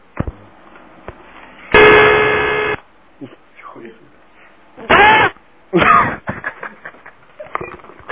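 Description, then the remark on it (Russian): A telephone number is dialed to call the local district police station: a loud, steady electronic tone lasts about a second, then two shorter bursts follow a few seconds later, over faint background noise and muffled voices. “Я сейчас позвоню в свое районное отделение милиции, где я проживаю.”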